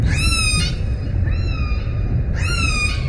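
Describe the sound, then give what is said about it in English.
Orca calls: three drawn-out, whistly cries rich in overtones, the first and last bright and sweeping, the middle one softer, over a constant low, rushing rumble. “Orca whales are some of the smartest animals on the planet. They're social, they hunt intelligently, and they're vocal.”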